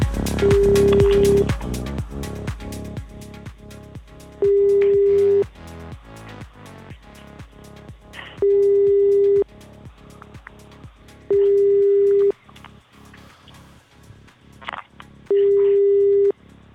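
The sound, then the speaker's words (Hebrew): A telephone busy signal sounds as a call is attempted again, a steady tone repeating five times in even pulses, each about a second long with short pauses between, while a faint rhythmic ticking continues underneath. No one speaks. “אולי תנסו שימו? כן, אנחנו מנסים שוב.”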